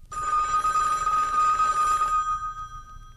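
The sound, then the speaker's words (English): A telephone bell rings loudly in one sustained burst of about two seconds, its metallic clang cutting off and fading briefly afterward, with no voices present. “The phone rings.”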